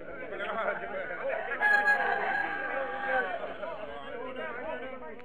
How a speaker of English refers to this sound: Would you care to sell your black champion rooster? Sell him? Why, Sahib, I'd rather sell my own son. Where would I be able to buy one like him? A champion like him?